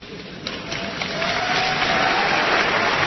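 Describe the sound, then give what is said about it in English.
Applause from a crowd, a dense crackling wash of clapping that swells after the first second and holds steady and loud to the end, with no voices heard. “What's the applause for?”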